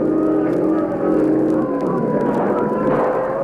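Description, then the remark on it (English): A police motorboat engine drones loudly and steadily, its pitch wavering and rising slightly as it races closer, with no voices over it. “Police boat coming fast.”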